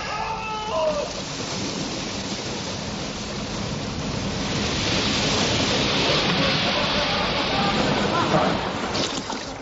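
A continuous wash of sea waves in a bay with a bubbling, watery churn underneath, swelling slightly louder partway through and holding steady and full.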